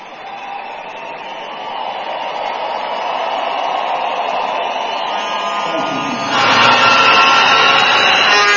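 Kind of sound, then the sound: crowd, audience clapping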